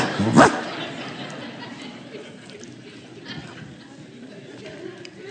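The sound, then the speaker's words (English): A person down on all fours imitates a dog to teach a dog how to bark, with one loud, sharp bark right at the start, then only a low, steady background murmur carries on. “So I'm down on my all fours teaching her how to bark.”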